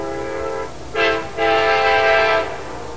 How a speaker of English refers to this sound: We get to let the train have the last word, or the A word here.